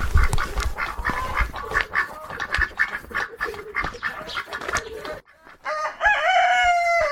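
A busy poultry yard in a garden with old trees in Lauenstein, on a one-hectare property with 35 chickens and 10 ducks. Chickens cackle and ducks quack over one another, dense, then a rooster's drawn-out crow rises near the end.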